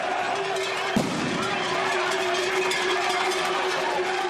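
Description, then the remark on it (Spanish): Bulls running through the streets of Pamplona, Navarra, during the encierro, amid a loud, steady crowd roar and babble, with a single sharp thud near the start and a faint sustained tone droning underneath. “El sonido, de los toros corriendo por las calles de Pamplona.”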